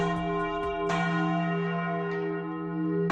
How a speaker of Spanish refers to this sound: A las 9 de la mañana, las campanas de las iglesias de Madrid tocarán en recuerdo de las víctimas, entre ellas las de la Catedral de la Almudena.